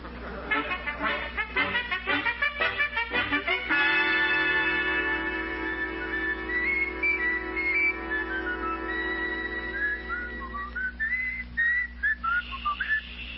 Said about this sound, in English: No whistling in the library, please. Oh, excuse me. That sign there just says no talking. It didn't say nothing about whistling.